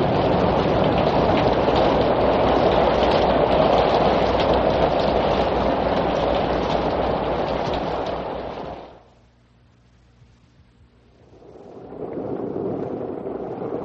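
rain falling

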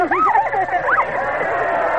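police dog barking

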